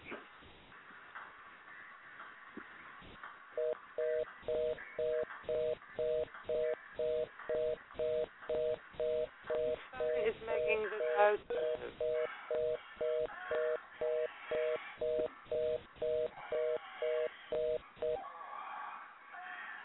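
A telephone busy signal beeps in a steady, rapid on-off pattern for about fifteen seconds, clear over a murky background of faint noise and muffled voices, while someone tries to get a caller on the phone line.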